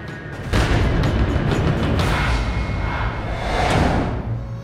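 A flashbang grenade lands and goes off outside a motel where soldiers keep guard, with a sudden loud bang, followed by several seconds of dense, rumbling roar and hiss that stays loud throughout. No one speaks.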